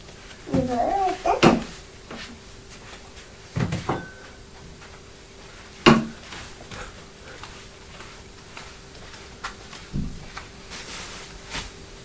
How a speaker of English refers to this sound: Bang the door. Bang the door. Did Daddy bang the door when he shut it? Can you hear his key going in the lock?